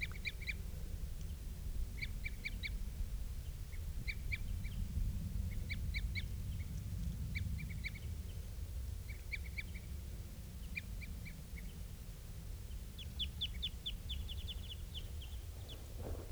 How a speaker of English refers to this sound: I'm getting closer to where the birds are. And I think I hear something that sounds almost like female begging calls.